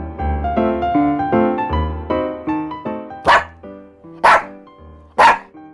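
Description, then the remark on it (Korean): A dog barks loudly three times at steady, roughly one-second intervals, following a few seconds of gentle melodic instrumental music with no talking. “내가 세상에서 제일 무서워하는 것은 귀신, 자다 일어난 내 얼굴, 그리고 강아지.”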